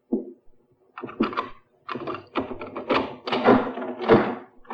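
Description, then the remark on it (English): A key rattles and clicks in a lock, then a door with a broken frosted glass panel is pushed open and stops short with a jarring thunk and clatter as it catches on a chain. “Funny, I've never known your mother to use the chain on the door in her life.”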